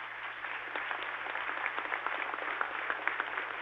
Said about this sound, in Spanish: Anticipámosle un aplauso.